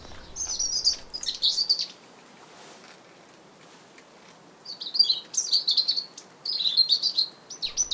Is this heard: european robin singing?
yes